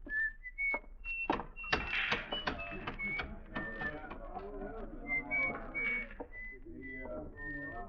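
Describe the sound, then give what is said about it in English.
A man whistles a tune in short, bright, high notes with little pauses between them, while sharp clicks and clattering knocks sound underneath throughout. He is walking down the shady side of a street on a sunny day, handling oddments in his little pocket: a slingshot, a pair of shaved dice and a razor-sharp knife. “On a sunny day, you could see him walking down the shady side of the street, whistling and handling the oddments in his little pocket.”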